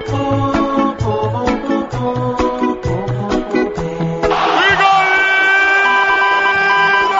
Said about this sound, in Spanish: El público también diciendo, Cristiano, balón de oro.